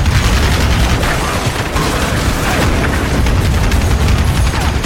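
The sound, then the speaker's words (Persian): A loud, dense barrage of gunshots and booming blasts, rapid overlapping cracks packed close together over a constant rumbling roar, as if a firefight is raging. “با صدای شلیک شدن چند تا گلوله فیروز از ترس خودش رو روی زمین انداخت”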